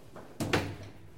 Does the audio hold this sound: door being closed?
yes